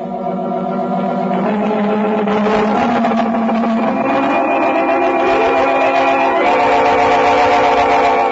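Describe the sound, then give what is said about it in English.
A police car carrying Fred Dan Garrett and Officer Madigan pulls away on special assignment with its siren wailing, the droning tone sliding upward in pitch over a steady engine rumble, loud and continuous with no talking. “Off on special assignment, Fred Dan Garrett and Officer Madigan in the police car.”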